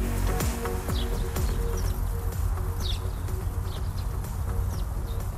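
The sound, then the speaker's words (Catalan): Small birds chirp in short, high-pitched bursts scattered over a steady low background hum, with no voices or other prominent sounds, giving a quiet ambience at a farm that held 600 cows and calves over four months earlier. “Doncs és això, silenci i ocellets.”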